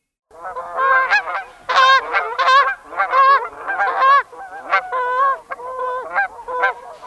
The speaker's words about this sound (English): That honking call of migrating Canada geese is probably very familiar to you.